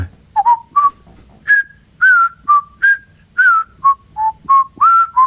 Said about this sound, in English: She told us that when she cleans in the prison wing by herself, she will hear someone whistling